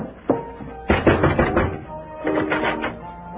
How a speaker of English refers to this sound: I'll go up and knock on the door here.